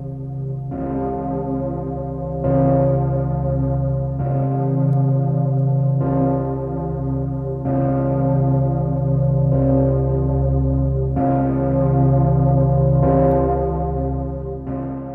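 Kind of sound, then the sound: signal or alarm, large cathedral bell tolling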